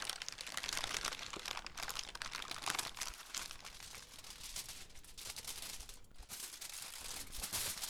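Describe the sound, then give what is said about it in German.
Dense, continuous crinkling of baking paper, a busy stream of sharp dry crackles and pops that mimics a crackling campfire, steady in loudness throughout, with no voices. “Für das Prasseln kannst du aber auch Butterbrotpapier nehmen oder Backfolie.”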